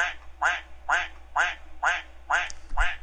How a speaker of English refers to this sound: I kind of like that duck there. That's a good one.